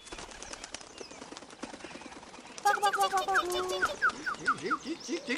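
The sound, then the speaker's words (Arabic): A bulbul flies away with a rapid, dense flutter of wing flaps for a couple of seconds, then a bright run of chirping, warbling bird calls takes over, loud. “في تلك الأثناء تجرأ بلبل ودخل عش العصفور وأخذ طعامه، ثم طار بعيدا بعيدا بعيدا جدا جدا عن الأنظار.”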